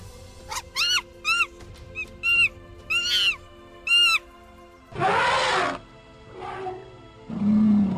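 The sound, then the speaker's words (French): A child's voice imitates an elephant trumpeting, first with a quick series of short, high, wavering calls, then with several louder, breathy, roaring blasts. “L'éléphant.”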